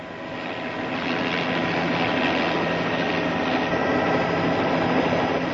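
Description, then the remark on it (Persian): A helicopter flies with a loud, steady engine roar and a low rotor drone that rises slightly at the start, then holds constant, as a trainee pilot completes a first solo flight in pilot training. No one speaks. “این بنده خدا خلبان هلیکوپتر در پایان این مرحله از آموزش خلبانی از نخستین پروازی که به تنهایی انجام داده موفق بیرون آمده است.”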